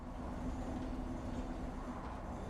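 A steady low rumble of a train rolling along the rails, with a continuous hum and faint rattling for the whole stretch, no voices.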